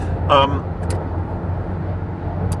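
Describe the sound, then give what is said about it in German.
Steady low engine and road rumble from inside a moving car as it overtakes a truck, continuous throughout, with a brief voiced sound near the start and faint high clicks. “Wunderbar, ich kann den LKW überholen, super.”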